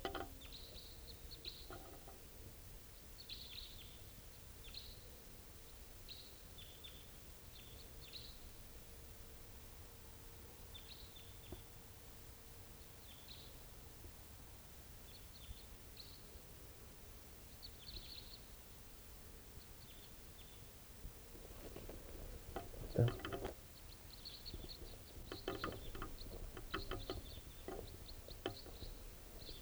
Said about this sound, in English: Type 4 is two. Two birds. Oh no. At least three.